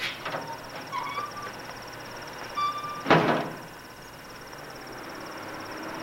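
The garden gate of a chalet in a residential area creaks open with a few thin metallic squeaks, then lands with one sharp clank, while a steady high insect drone hums throughout. No one speaks.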